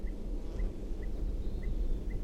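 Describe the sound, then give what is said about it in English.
A bird near its nest tree gives repeated alarm calls at 6:57 p.m.: five short, high chirps spaced about half a second apart, fairly faint above a steady low rumble of background noise. “Alarm calls again.”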